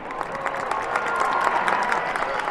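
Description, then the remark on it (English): Tens of thousands of people packing a square beside a basilica at noon cheer and applaud outdoors as a figure in white, Pope Francis, appears at a top-floor window; a dense, steady wash of clapping and shouts fills the open space without pause. “A figure in white appears, the crowd cheers”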